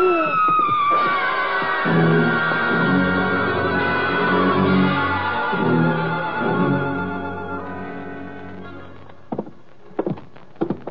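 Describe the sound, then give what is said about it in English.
A woman's shrill, high-pitched scream rings out at the start and quickly fades, leaving a sustained droning tone with dull rhythmic thuds underneath, then a few sharp taps near the end. “That was a woman screaming, Louie.”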